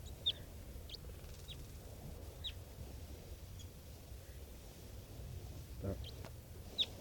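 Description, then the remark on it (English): Sparse, thin high chirps from wild birds, scattered irregularly and mostly faint over a steady low rumble. Two sharper calls stand out, one near the start and one at the end. “And I pointed at some of the wild birds.”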